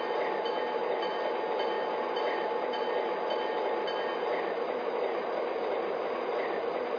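A train rolls along the rails with a steady, dense roar and faint rattling, holding the same loudness from start to finish with no voices.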